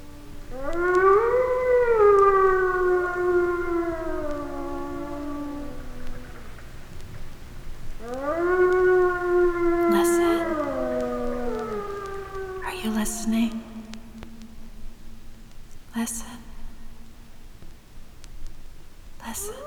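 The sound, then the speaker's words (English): Wolves howl in long, rising and sliding tones, several voices overlapping in two drawn-out bouts, followed by a few sharp, brief knocks as the howling fades. “One of the reasons wolves so seldom fight among themselves is that they can communicate their feelings so clearly, so a crisis situation is almost never reached.”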